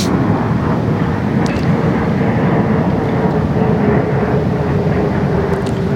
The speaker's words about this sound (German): und schon wieder ein Flugzeug. Was ist denn hier los heute?